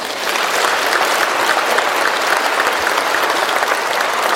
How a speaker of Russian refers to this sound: И сейчас мы поблагодарим Бога аплодисментами за то, что в нашей церкви есть такие люди, которые нам так служат.